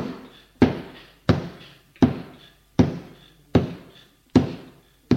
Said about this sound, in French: Une fois rentré, il a fermé la porte derrière lui et court vers une fenêtre qui est condamnée avec des planches. Il cogne dessus.